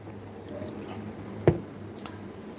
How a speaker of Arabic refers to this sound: المهم اشرب ماء شوية.